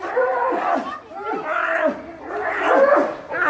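Sloth bears yell and roar at each other in a fight, a loud, continuous run of harsh, wavering bellows and growls with no pauses between the calls.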